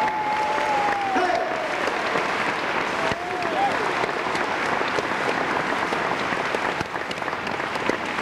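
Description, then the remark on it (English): Sustained applause from a large audience at the Grand Ole Opry, Opryland, welcoming a boy performer, fills the whole stretch, a dense, steady clatter of clapping with a brief whistle or cheer rising out of it near the start. “What I was wanting to say all along was this boy will mean a lot to him if you give him a great round of applause.”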